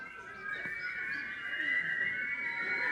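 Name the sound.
people whistling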